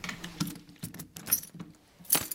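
Heavy doors of an old money safe from about 1890, standing in a meeting room, being opened: a series of metallic clanks, rattles and jangling clicks in irregular bursts, ending with a louder, bright metal clunk. No voices.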